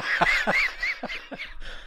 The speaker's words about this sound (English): can you not cough?